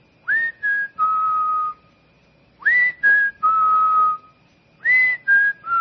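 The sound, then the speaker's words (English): A father whistles a short three-note phrase, repeating it three times with brief pauses between. The whistling is clear and steady, with the last note of each phrase held longest, and no talking. “He'd be whistling.”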